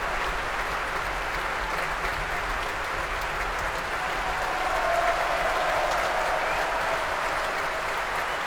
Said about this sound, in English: Donald Runicles, the new chief conductor of the BBC Scottish Symphony Orchestra, coming back on for his second bow now, receiving a huge round of applause from the orchestra.